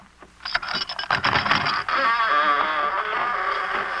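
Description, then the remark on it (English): An extra-large door in a back wall rattles and clunks at first, then swings open with a long, wavering creak that groans on steadily, fairly loud, with no one talking. “Open that door, mister.”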